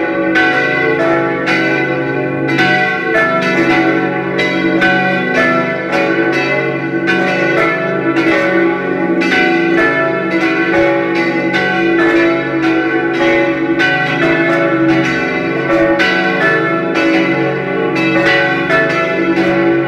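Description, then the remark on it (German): The bells of St. Theresia parish church in Linz peal continuously at full volume at 12 noon, several overlapping tones ringing in a steady, dense cascade with rich lingering resonance and no voices. “Sie hören die Glocken der Pfarrkirche St. Theresia in Linz.”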